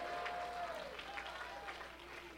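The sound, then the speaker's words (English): An audience claps hands to God and blesses his name in a dense, continuous wash of clapping, with faint sustained tones and indistinct voices blended underneath. “Why don't you clap your hands to him and bless his name?”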